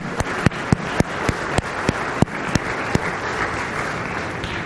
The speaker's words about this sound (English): Didn't our boys and girls and their leaders do really, really well? And I know that you were clapping them as they were up, but I'd like you to give them one more clap because I think they're worth it.